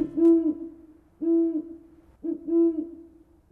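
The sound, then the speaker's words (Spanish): An owl hoots three times in a slow, steady rhythm, each call a low, smooth tone with a slight rise and fall, clear with no voices. “It is an owl.”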